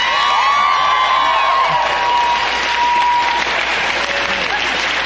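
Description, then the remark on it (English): A large audience claps steadily and loudly throughout, a dense sustained roar of hands with a few high whoops and cheers rising out of it near the start, applauding author Chuck Palahniuk at the close of an Inforum and Commonwealth Club event. “All right, so let's give a big round of applause to Chuck Palahniuk for sharing his thoughts with us tonight.”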